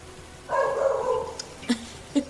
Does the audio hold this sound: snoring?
no